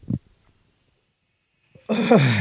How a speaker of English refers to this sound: I gotta stop asking you when you're fucking yawning.